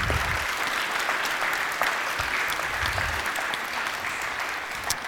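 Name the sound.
round of applause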